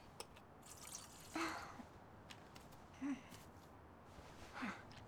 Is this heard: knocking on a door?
no